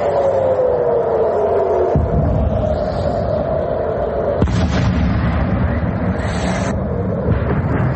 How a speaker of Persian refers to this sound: ارتش اسرائیل از پرتاب دست کم 2 موشک از غزه به سوی تل‌آویو در شامگاه پنجشنبه خبر داد. شلیک این موشک‌ها آژیر خطر را در تمامی مناطق مرکزی اسرائیل به صدا درآورد و صدای انفجارهایی شنیده شد.